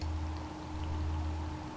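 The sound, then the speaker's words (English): Steady, hissing simulated rain wash, a three-dimensional rain effect made for headphone listening, with a few faint scattered drips, sitting over a constant low hum; no voices, an even level throughout the short stretch. “So let's start with the rain.”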